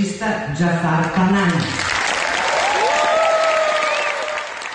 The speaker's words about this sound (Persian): سالن اصلی جشنواره فیلم ونیز به احترام آقای پناهی ایستاده به تشویق او پرداخت.